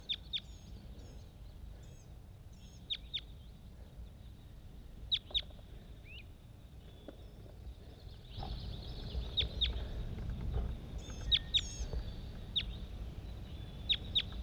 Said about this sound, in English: Bird 80. Responding to a whole bunch of other wild birds all over the place.